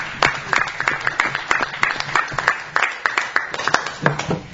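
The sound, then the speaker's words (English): A group at a council meeting applauds a councillor, thanked for his services, steadily, many hands clapping in a dense, irregular patter that holds at an even, moderate loudness throughout without building or fading. “Have our round of applause for George.”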